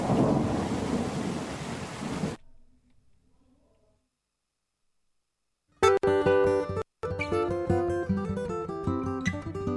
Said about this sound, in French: Ah l'orage, que c'est bon.